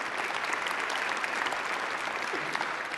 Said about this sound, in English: So give yourselves a big huge round of applause.